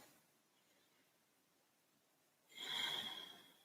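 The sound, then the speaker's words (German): A long stretch of near silence, then one loud, airy deep breath in and out during a relaxation meditation rushes in and swells for about a second, with no talking. “Und dann atmen wir noch einmal tief ein und aus.”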